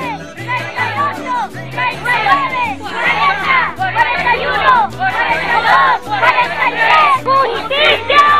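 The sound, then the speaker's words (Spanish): A large crowd of workers and organizations shouts in unison that they are not alone, chanting a count in loud, rhythmic bursts roughly once a second, the many voices blending into a dense, continuous roar. “Y escuchamos a la gente, a los obreros, a todas las organizaciones presentes gritando que no están solos y haciendo el conteo que a lo largo de todos estos meses se ha venido haciendo.”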